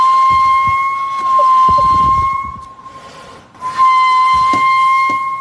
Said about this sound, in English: What's great, it's two different walruses. I didn't even know that walruses knew how to whistle, and they're taking turns.